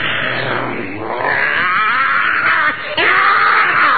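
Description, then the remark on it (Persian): A loud, drawn-out wolf cry fills the whole moment, a harsh wailing howl that rises, breaks briefly, then surges again, continuous with no talking; the wolf, having drunk water until bloated, raises its head and cries out. “گرگ بدجنس غافل که نبود هرگز عاقل، پی خورد و خورد تا باد کرد، سرشو برداشت فریاد کرد.”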